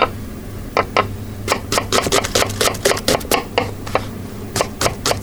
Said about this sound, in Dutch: Nou, preitje hebben we liggen, wortel en de selderij. En dat gaan we nu even snijden.